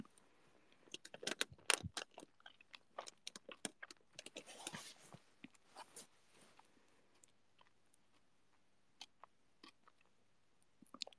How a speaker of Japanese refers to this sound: だからガムなんだ。でごめん、咀嚼音めっちゃキモいよね。ごめん。